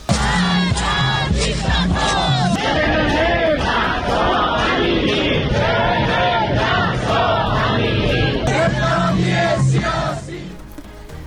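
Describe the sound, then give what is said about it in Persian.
A large protest crowd of women, headscarves removed and waved, chants slogans in loud, rhythmic unison at a Woman, Life, Freedom protest marking the second anniversary of Mahsa Jina Amini's death, many voices shouting together steadily for about ten seconds before the chanting drops off at the end. “دیگه بعدش خانوما همه روسریشون رو در آوردن و چرخوندن و شعار دادن.”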